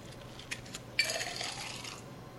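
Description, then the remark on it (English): A few light clinks, then about a second of dense, rattling metallic shaking, like ice tumbling inside a cocktail shaker. The shaker holds a cocktail with muddled cucumber, jalapenos and cilantro. The sound is fairly quiet, with no talking. “It's shaking up something like that with the jalapenos and the muddled cucumber.”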